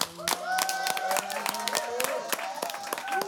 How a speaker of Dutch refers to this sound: We gaan gelukkig door met het laatste groepje van vandaag. Het Denktank groepje nummer 4. Geef ze even alvast een groot applaus.